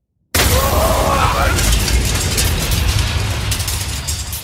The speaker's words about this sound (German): Eine gewaltige Explosion erschütterte die Nachtruhe. Rotglühende Funken und brennende vegane Schnitzel regneten auf die Straße herab. Dort, wo eben noch der beliebte Foodtruck parkte, stand jetzt nur noch ein qualmendes Wrack.